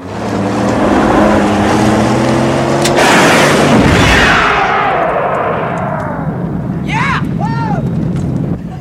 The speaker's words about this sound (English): All right, how about this one? Bazooka versus truck. Who will win?